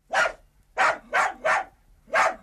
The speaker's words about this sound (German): Als Bertha die Kette an der Tür öffnete und das Mädchen eintrat, sprang Gustav freudig an ihr hoch und bellte schon wieder wie wild.